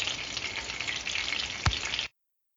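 Geoduck clam sauce frying in oil: a steady, hissing crackle for about two seconds, broken by a single soft knock near the end before it cuts off. No voices.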